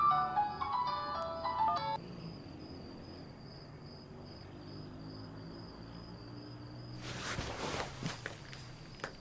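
mobile phone ringing

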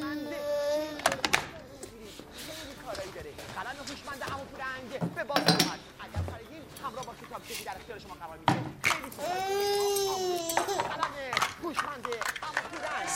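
baby crying

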